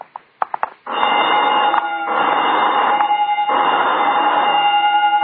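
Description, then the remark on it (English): A few sharp clicks, then a loud electric alarm bell starts ringing continuously, a steady harsh metallic clamor with sustained high tones that keeps going without pause. “Oh, just testing the burglar alarm, I guess.”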